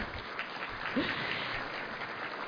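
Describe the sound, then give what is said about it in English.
Steady applause from an audience for an absent board member, a dense wash of many hands clapping at moderate volume, with a faint voice briefly audible beneath it. “Unfortunately, Bill's not with us, but let's give him a round of applause anyways.”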